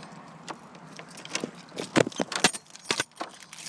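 A house door is shut and locked with keys: bright metallic jangling and rattling clicks come in quick irregular bursts, with a couple of heavier thuds partway through. No one speaks.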